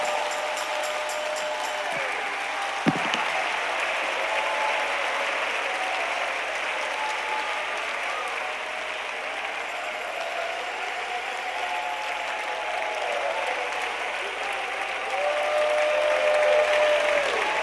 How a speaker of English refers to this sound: Somebody clap and lift your voice and give thanks unto God.